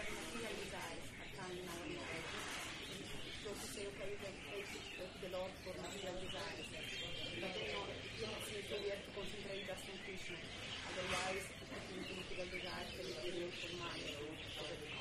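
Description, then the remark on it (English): Dense, loud birdsong fills the scene throughout, with many chirps, tweets and cooing calls overlapping while people talk underneath, the voices partly buried by the constant bird chorus. “The birds are drowning you out.”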